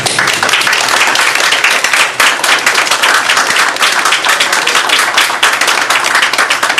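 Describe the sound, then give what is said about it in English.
A crowd applauds loudly and steadily, dense overlapping handclaps forming a continuous bright wash of noise that holds at a constant level for several seconds with no voices. “I'd ask you not to applaud on these because this is constituent input.”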